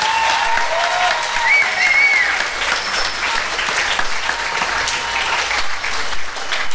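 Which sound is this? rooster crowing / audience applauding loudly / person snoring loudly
audience applauding loudly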